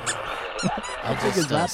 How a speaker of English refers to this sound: I'm trying to do my best to get these dog sounds to stop.